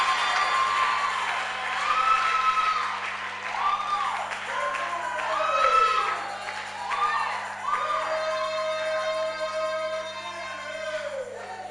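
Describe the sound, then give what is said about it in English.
A church audience shouts and cheers continuously during a sermon, with whoops and sustained high-pitched cries rising and falling over a dense wash of applause and clapping, loud throughout. “When you shout like that, what are you entering into?”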